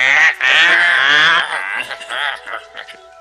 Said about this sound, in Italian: Timoteo venne svegliato da alcuni corvi che ridacchiavano fra loro